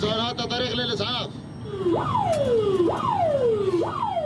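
An ambulance siren wails loudly, heard from inside an ambulance carrying an injured patient, rising quickly then sliding down in repeated sweeps about once a second, preceded by a brief jumble of tones and noise.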